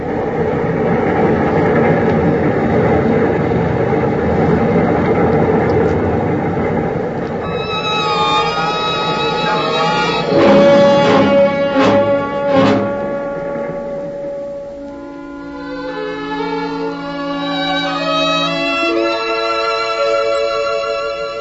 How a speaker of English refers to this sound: his body swayed with the rhythm of the train.